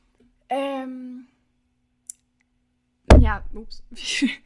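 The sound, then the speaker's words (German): A single loud thump as something knocks against the microphone, with a boomy low-end rumble. A drawn-out voiced sound comes earlier, and a voice resumes right after the hit. “Voll gegens Mikro geknallt.”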